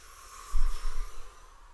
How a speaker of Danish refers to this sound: Så trækker jeg vejret, hæver armene, strækker mig bagover. Falder forover og puster ud.